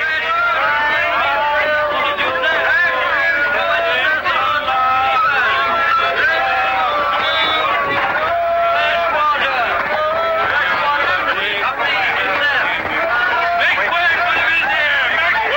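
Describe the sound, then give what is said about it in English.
A teeming crowd in a busy market in the ancient city of Granada, with horses being led through it: dozens of voices overlap in a dense, steady babble, loud and unbroken throughout, with no single speaker standing out. “Omar and Allah lead their horses through the teeming crowd.”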